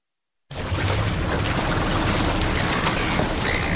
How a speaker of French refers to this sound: Le bruit des vagues et le cri des mouettes, depuis bientôt 2 ans, c'est à peu près la seule chose qu'on entend sur l'esplanade de l'Opéra.